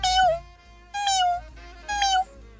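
kitten meowing

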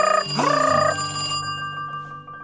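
telephone ringing

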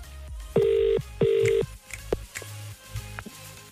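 phone call ringing tone

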